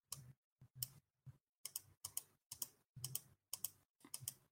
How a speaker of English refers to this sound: Just keep clicking. Keep clicking. That's very loud and going into the podcast.